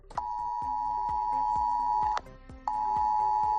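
A loud, piercing mobile phone emergency alert tone blares steadily, cuts out briefly, then resumes, with a pulsing rhythmic beat underneath. It is a drill alert sent to over 6,400 phones in Guadalajara for a simulated radioactive leak at the Trillo nuclear plant. No one speaks.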